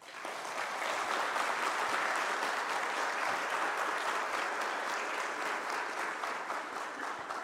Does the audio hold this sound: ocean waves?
no